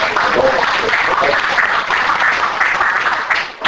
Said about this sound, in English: Okay, so let's give her another round of applause.